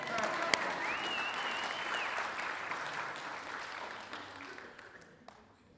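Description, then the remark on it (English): A church audience bursts into sustained applause for the 30 people brought to new life the previous weekend, a dense wash of many hands clapping together that holds steady before gradually tapering off, with a faint voice or whistle rising briefly within it. “And it's weird that we're not a church clapping about that. That's a cue.”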